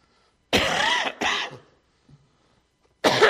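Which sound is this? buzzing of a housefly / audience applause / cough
cough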